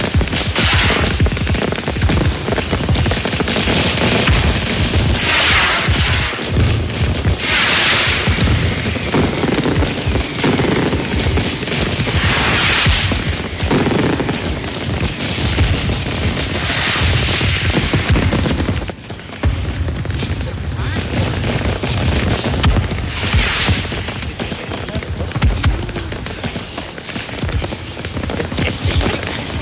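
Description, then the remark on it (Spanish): Fireworks explode in a dense, continuous barrage, with rapid crackling and popping punctuated by louder booming bursts every few seconds, sustained at high volume throughout with no voices. “Protegidos tras los cristales, disfrutan del espectáculo pirotécnico.”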